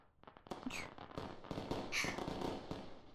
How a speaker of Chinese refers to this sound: 好像是放起了烟花。这个烟花是你姐姐结婚的烟花吧？你往窗边看，烟花的盛放可真是美。